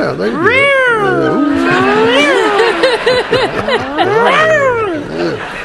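cat meowing

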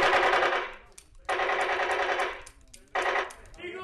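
gunfire

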